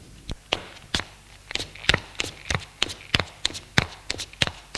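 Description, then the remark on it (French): Footsteps of people going down stairs, a quick series of sharp thuds landing in an uneven rhythm, about a dozen steps over a few seconds with no voices. “Ils descendent les escaliers.”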